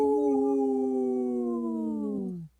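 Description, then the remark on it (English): Two people on the Native Roots Radio show imitate a wolf howl together, a loud sustained wail that holds steady and then slowly slides downward in pitch for about two and a half seconds before cutting off, with nothing else around it. “I only heard two voices there. But hey, we are here with two howls.”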